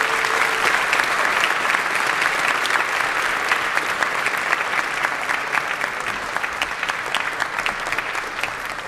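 A large audience claps steadily and loudly for several seconds for a speaker after her talk, a dense, continuous wash of applause that holds its level throughout with no talking over it.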